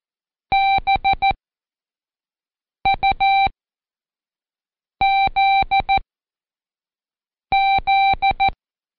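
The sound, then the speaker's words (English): Morse code beeps spelling the word "buzz": four clipped groups of short and longer electronic tone pulses, evenly spaced with pauses between letters, loud and clean with no voices. “Did you hear the fly buzz? The word was buzz, B-U-Z-Z.”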